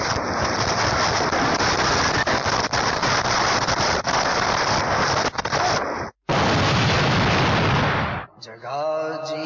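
A loud fireworks explosion from people setting off fireworks roars and crackles continuously for several seconds, cuts out briefly, bursts again, then gives way to a faint voice at the very end; the explosion caused several deaths.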